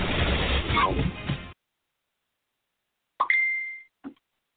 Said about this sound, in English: Somehow I can't seem to turn off my darn notifications, so they're going to be binging in the background. I hope it doesn't become too much of a hindrance.